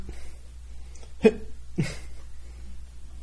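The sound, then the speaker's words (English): A voice imitates hiccups like Osborne's, which occurred at about 40 times a minute, with two short, sharp gulping hics about half a second apart, clear against an otherwise quiet background. “In the beginning, I found out that Osborne's hiccups occurred at a rate of about 40 times a minute. 40 times a minute, he would.”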